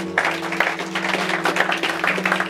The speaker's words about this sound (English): Everybody said, amen. We give a clap offering to the Lord.